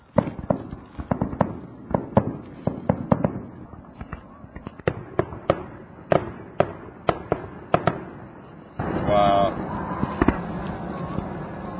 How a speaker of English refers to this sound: Oh, here we go. Oh, really? Fireworks have begun. Hey, it's starting.